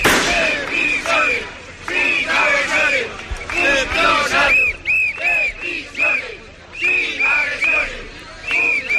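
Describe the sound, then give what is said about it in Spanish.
A crowd of protesting prison officers, gathered in the Plaza de la Inmaculada in front of the government subdelegation, shouts loud, rhythmic chants in unison that prison officers do not want assaults, bursts of voices rising and falling in repeated slogans, with occasional thumps beneath the steady collective yelling. “Dicen que los funcionarios de prisiones no quieren agresiones, decían en esos gritos.”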